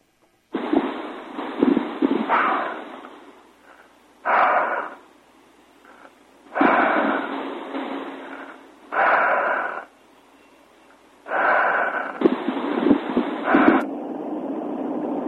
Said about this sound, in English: Yes, sir. That's all we had. All I heard was breathing.